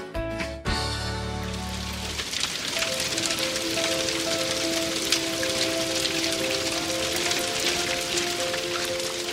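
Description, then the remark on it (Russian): Steady autumn rain pours down in a dense hiss, preceded by a brief musical chime at the start, with soft melodic tones drifting faintly over the continuous downpour. “Часто шли дожди, и детишек на ВДНХ почти не было.”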